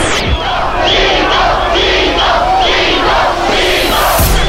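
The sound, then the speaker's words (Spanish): A large stadium crowd at River's Monumental stadium applauds Colombia's team after a 5–0 win over Argentina, roaring in a loud, continuous wash of noise, with shouts and chanting voices rising through it for the full few seconds. “Así, en el Monumental de River, Colombia sale aplaudida.”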